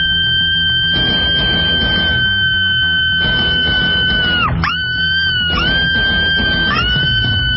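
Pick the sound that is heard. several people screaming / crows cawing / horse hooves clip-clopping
several people screaming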